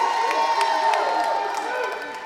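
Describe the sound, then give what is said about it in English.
A crowd roars and cheers in praise in a sustained, loud wash of many voices, with bright shouts and whoops poking out above the steady din for a couple of seconds. “You guys are supposed to be roaring like that in the spiritual realm.”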